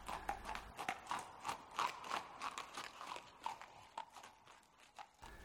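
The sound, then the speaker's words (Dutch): Horse hooves clip-clop in a steady, brisk rhythm as a coach carrying many little boys is pulled away. Each sharp hollow knock is distinct over a faint crunching undertone, with no voices. “Gelukkig kon Jaapie Krekel er nog net inspringen voor de koets wegreed.”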